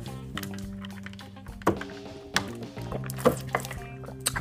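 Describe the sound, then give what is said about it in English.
Water is poured into a cup, with a gurgling, liquid rush followed by a few soft thunks and small slurping sips of tea, no talking. “Actually get some more water.”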